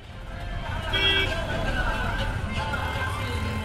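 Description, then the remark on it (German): Dense city traffic rumbles steadily in a jam on a road in Ahmedabad, India, in the afternoon, beneath the concrete stilts of a planned metro line with high-rises on both sides. Engines drone, a brief horn-like blare sounds early on, and indistinct voices murmur in the background. “Auf der Drive-In-Road staut sich der Verkehr unter den Betonstelzen, auf denen irgendwann einmal Metrozüge fahren sollen, links und rechts Hochhäuser.”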